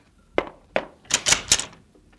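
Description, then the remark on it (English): Someone knocks on a door five times: two spaced, solid raps followed by three quicker, harder knocks in a row. There is no talking. “Just a minute. Don't knock it down.”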